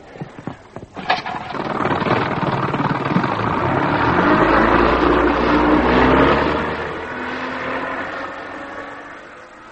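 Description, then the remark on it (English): A few sharp clicks and a cough give way to a boat engine catching and roaring steadily, with a deep rumble underneath before the engine noise eases slightly near the end. “Get the engine started, then.”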